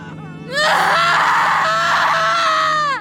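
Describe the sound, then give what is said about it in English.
A woman lets out a loud, sustained scream of pain lasting a few seconds, her voice wavering and cracking before it cuts off abruptly. “I held my mother as she screamed, and I screamed with her.”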